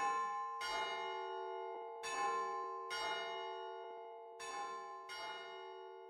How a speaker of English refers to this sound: They say that if you walk on Leatherwood Top at night, you hear a church bell ring out. It's the ghost of Etta Ryan looking for her lost lovebird.